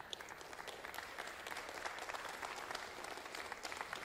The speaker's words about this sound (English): Why don't you stand up on your feet? Keep on clapping.